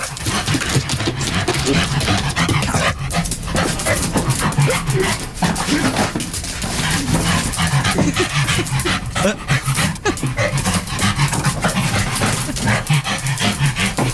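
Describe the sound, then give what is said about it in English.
A King Charles Spaniel pants heavily and rapidly, the quick breathy rhythm continuing steadily throughout with occasional faint whimpering noises. “That was an actual King Charles Spaniel.”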